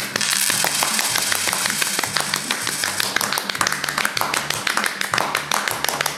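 Applause from a small group for the winner of a game round fills the whole stretch, a steady patter of overlapping claps that stays fairly loud throughout, with a low droning hum underneath.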